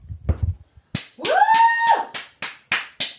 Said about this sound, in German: Allein? Ja. Einen alleinigen Applaus? Ja, mit Johlen so.